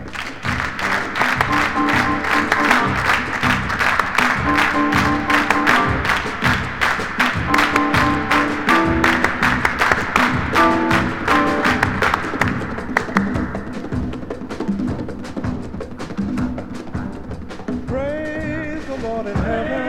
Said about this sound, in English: Clap your hands!